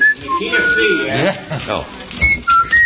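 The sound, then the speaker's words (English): A man whistles a few short, thin melodic phrases of an old, familiar tune, fairly faint and broken up, mixed with voices and background chatter that largely cover it. “would you whistle something old and familiar while I find a commercial?”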